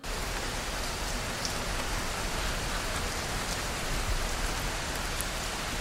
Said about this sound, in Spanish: ¿Cuál es el elemento? Llueve. Llueve. Rain. Vale. Rain.